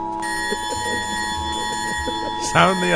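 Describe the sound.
An alarm bell rings continuously and steadily throughout, a bright sustained clanging, while people talk underneath and one voice rises louder near the end.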